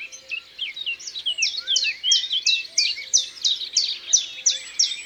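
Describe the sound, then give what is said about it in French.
A common chiffchaff, a small green-grey bird, sings a steady, bouncing series of bright two-pitched notes, repeated evenly several times per second, clear with no other sounds. “ce tip-tap, tip-tip-tip-tap, c'est le Puyo Veloz.”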